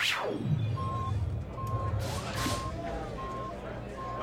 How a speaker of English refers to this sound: If that alarms what I think it is, we're going to have a lot of people looking for a lift.